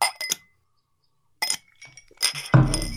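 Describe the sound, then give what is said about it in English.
Glasses clink together several times in a Friday toast, sharp, bright taps at uneven intervals with short gaps between them, ending in a louder, fuller ring. “Anyway, cheers, cheers, cheers. Cheers. Cheers. Happy Friday.”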